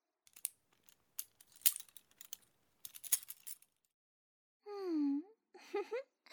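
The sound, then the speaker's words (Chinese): A bunch of keys clatters down and jangles in a series of bright metallic clinks over about three seconds, followed by a short pause and some brief voiced murmurs. “好了，这是你下面的钥匙，自己打开吧。”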